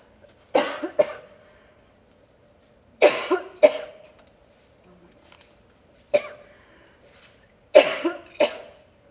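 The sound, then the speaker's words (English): Loud coughing comes in four clustered bursts, mostly paired, spread across several seconds with quiet pauses between, a single person hacking and clearing their throat. “I'm so sorry, I feel like I swallowed dust.”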